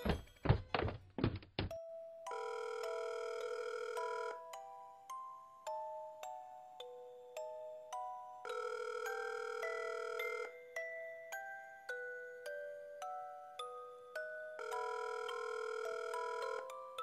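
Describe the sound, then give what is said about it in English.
A few quick dull thumps, then a telephone rings on the line: repeating bursts of bright electronic tones with short stepping melodies between them, steady and unvoiced, as a house phone is used to call Mr. and Mrs. Johnson. “Let me call Mr. and Mrs. Johnson.”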